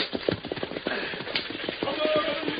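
Horses' hooves clip-clop in a quick, steady rhythm, a dense run of sharp clattering beats over a rumbling, noisy background, as a whipped team of horses pulls a stagecoach through the wilderness at a brisk pace.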